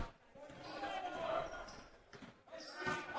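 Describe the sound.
A basketball is dribbled on a court, its repeated thudding bounces coming through a steady wash of crowd noise and indistinct voices.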